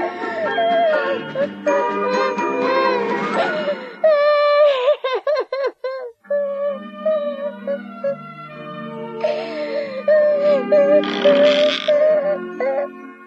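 A young girl sitting by a stove in a small hut cries and sobs, wiping her tears, with long wavering wails broken by a burst of short, gulping sobs midway before the drawn-out crying resumes.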